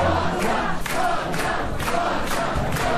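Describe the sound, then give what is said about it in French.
A crowd of Giorgia Meloni's supporters celebrates at night, cheering and shouting continuously, a dense roar of many voices with rhythmic bursts of louder yelling rising every half second or so, sustained at a steady loud level. “Joie des partisans de Giorgia Meloni cette nuit, pressentie pour être la future première ministre d'Italie, la première femme à occuper un tel poste à la tête d'un mouvement post-fasciste.”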